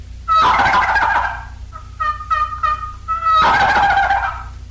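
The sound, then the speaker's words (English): Two loud, rattling turkey gobbles imitated on a turkey call, clear, with a short series of higher clucking notes between them and no talking. “And here are some gobbles, which sometimes stir the toms into action both spring and fall.”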